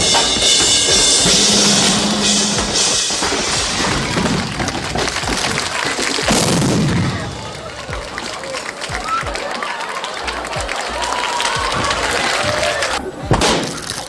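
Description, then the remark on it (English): A dense, noisy live concert roar is split midway by a sudden booming onstage explosion of a drum kit rigged by stage techs as a cannon, followed by ragged crashing and clattering of a guitar being smashed as the crowd keeps screaming and cheering. “The thing is, though, and if you see the explosion on video, which the clips are out there, it's absolutely huge.”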